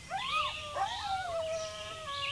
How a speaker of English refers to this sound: Coyotes.